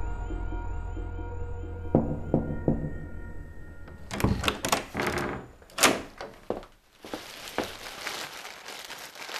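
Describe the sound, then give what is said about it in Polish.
A door opens quietly over a low background hum, followed by a few soft thumps like footsteps, then a plastic shopping bag rustles and crinkles for several seconds. No one speaks. “Cicho otwierają się drzwi, słyszę kroki, szelest reklamówki, pocałunek.”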